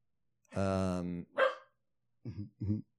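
A female dog lets out a drawn-out, tonal bark, then a sharp yelp and two quick, lower barks after a short pause.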